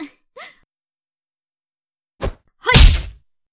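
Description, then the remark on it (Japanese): A stepping-in counter punch lands: two short breathy exhalations, a brief pause, then a sharp whack followed immediately by a heavier, booming thud with a grunt. Loud, with no talking. “こんな感じでステップインしながらのカウンターを決められてしまいますよ。”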